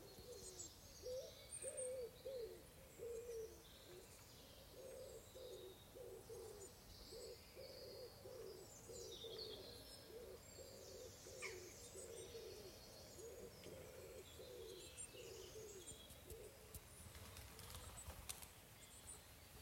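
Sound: birdsong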